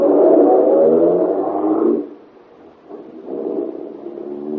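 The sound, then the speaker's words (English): A car engine revs hard with a loud, growling roar as the driver steps on the gas. It dips briefly, then surges again as the car accelerates. No voices are heard. “You're almost jubilant as you run to your car, tell Helene the good news, and step on the gas.”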